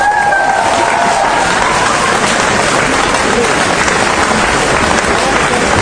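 A crowd bursts into loud, sustained applause for a pianist being introduced with a band, dense clapping filling the space continuously for several seconds, with a brief high tone or whistle near the start.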